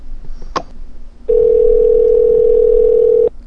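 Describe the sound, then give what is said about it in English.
A steady telephone tone sounds for about two seconds, loud and continuous at a single pitch, after a brief click and some faint low background noise. No one speaks. “You should take this call.”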